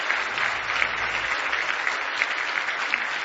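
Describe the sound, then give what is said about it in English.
Sustained applause from an audience giving a hand clap of praise to God, a dense, steady wash of many hands clapping at once, fairly loud and even throughout with no voices standing out. “Give Him another big hand clap of praise if you love Him.”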